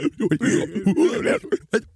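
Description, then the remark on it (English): A person imitates the aliens talking in a movie, a burst of strange, garbled alien-like chatter, warbling and guttural in quick choppy syllables, fairly loud, ending in a few short clipped bursts. “And then when all the aliens talk, they're...”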